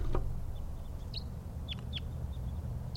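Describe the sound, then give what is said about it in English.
Wild birds flying around a bird-catching net holding caught females give a few short, high, downward chirps, spaced irregularly over a steady low rumble of background noise. Nobody speaks. “And the birds are flying around. Wild ones.”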